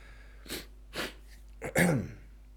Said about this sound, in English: And I'm sniffling. I think I'm sniffling as a result of rubbing my eyes a lot. You know, when you rub your eyes, it gives you like the sniffles. It gets like your whole sinus going.